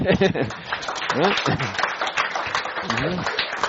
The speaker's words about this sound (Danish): Hvis der ikke er spørgsmål, så hvis man klapper i hænderne, så er...